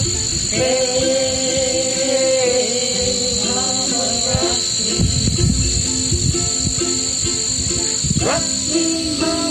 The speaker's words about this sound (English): actually went on location out in the prairie, and of course that gave them a little bit of the cricket noise in the soundtrack.